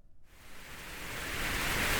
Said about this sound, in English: Or do you like to fall asleep to music, perhaps the soothing sounds of white noise?